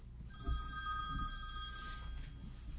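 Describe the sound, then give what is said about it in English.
A telephone rings once in a steady electronic trill lasting about two seconds, clear, with no voices and only a faint low rumble in the background. “Not until I answer the phone, though.”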